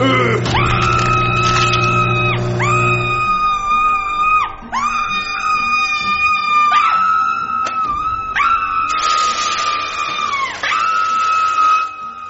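A woman screams loudly and shrilly in a run of about six sustained high-pitched wails with brief breaks between them. No one speaks.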